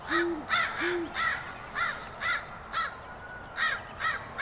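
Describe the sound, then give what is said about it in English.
A crow caws repeatedly in a steady, harsh series, harassing an owl, while two low, soft owl hoots sound underneath near the start. There is no talking. “Ooh, a crow's going to harass it, too, because owls will take almost anything, including baby birds.”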